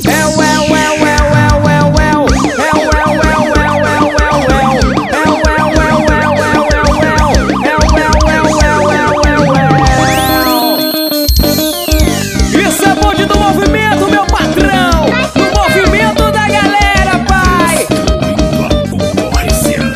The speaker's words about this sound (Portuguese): Em cima do capô o alarme disparou.